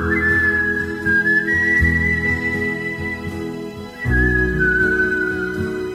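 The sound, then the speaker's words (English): A clear whistled melody glides in long, sustained notes over a steady band accompaniment with bass and rhythmic backing, briefly pausing before resuming with a fuller mix. “These are the top 10 whistling songs of all time.”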